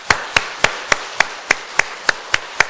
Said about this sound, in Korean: 우리 다 같이 하나님께 영광의 박수를 한번 올리겠습니다.